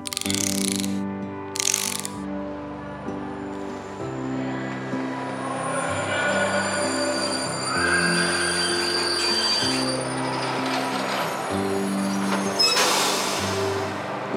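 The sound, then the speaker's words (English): At a train station, a train rumbles and squeals with layered metallic, ratcheting mechanical tones, punctuated by short bursts of hissing steam near the start and end. No one speaks. “We're at a train station, and we're gonna get on a train.”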